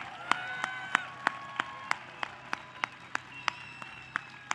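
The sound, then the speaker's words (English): Applause at a prayer rally, a round for the priest and the speakers, comes through as a steady, evenly spaced run of sharp claps, roughly three per second, with faint high whistling tones lingering underneath and no talking. “How about one round of applause for our Father Huber and our speakers?”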